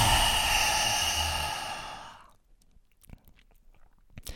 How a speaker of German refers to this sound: Auch hier kannst du jetzt nochmal den schönen Löwenatem einmal üben. Dafür brauchen wir hier nichts umsetzen, sondern du atmest einfach hier im herabschauenden Hund tief durch die Nase ein und durch den geöffneten Mund mit rausgestreckter Zunge aus.